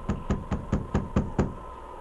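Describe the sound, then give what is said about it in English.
Seven quick, evenly spaced knocks on the door of a mission by a sergeant with his revolver drawn, firm and steady in rhythm, with a low, solid thud to each rap and no voices. “The sergeant drew his revolver and then knocked.”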